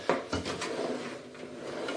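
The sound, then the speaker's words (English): A kitchen drawer slides open and shut with a wooden clatter and rattling contents, a sharp knock near the start followed by a few more scraping thumps, fairly loud. “Not that drawer, obviously.”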